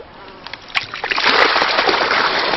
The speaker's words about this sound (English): But before he starts work, he needs to let some water out of the system.